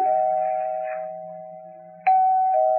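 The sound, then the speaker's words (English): An apartment doorbell chimes with a long, ringing tone that slowly fades, then is rung again about two seconds later, fairly loud, with no voices. “I rang the bell. It kept ringing and ringing.”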